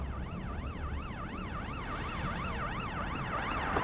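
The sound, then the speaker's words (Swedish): A police car siren wails steadily in a fast rising-and-falling yelp, heard from inside the moving police car on an urgent emergency drive toward Gårdsten, with engine and road rumble underneath, and no talking. “Hoppar in i en bil och så kör vi trängande då mot Gårdsten.”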